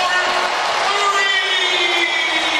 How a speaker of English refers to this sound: he steps right into an open three, and the crowd will tell you he got another one.